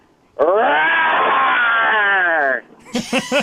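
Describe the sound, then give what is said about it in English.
A contestant speaking over the phone imitates a lion with one long, loud, strained roar lasting about two seconds, its pitch rising and then sagging, followed by a few quick spoken words. “let's hear your lion sound.”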